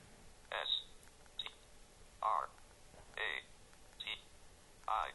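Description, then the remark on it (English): Phone keypad buttons being pressed to type text letter by letter on a numeric keypad while demonstrating the phone: about six short electronic beeps and clicks at an irregular pace, fairly quiet; the 7 key is pressed too many times. “Uh-oh, I hit 7. I hit it too many times.”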